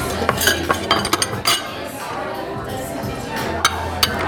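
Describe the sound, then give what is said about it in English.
Silverware and dishes clink and clatter in a string of sharp taps and scrapes, scattered irregularly over a steady murmur of background chatter, like a busy restaurant table. “Oh, fresh silverware, or I'm good.”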